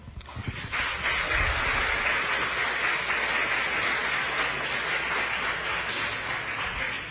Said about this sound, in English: Moving forward, I'm going to need to hold the applause in between just so we can make sure we can have enough questions asked. The applause take a bunch of time, so if we can just keep moving and no applause in between.